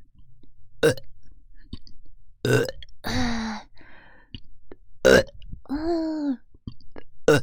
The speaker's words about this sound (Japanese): 耳元ゲップでおちんちんビンビンになっちゃうんだね。